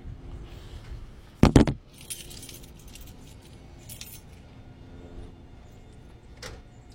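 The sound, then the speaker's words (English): Keys on a keychain jingle in short metallic bursts, starting with a loud clunk and followed by several lighter rattles spread over a few seconds, against a low background rumble. “You know, faced with the decision between removing this key from this keychain and just shutting the car off.”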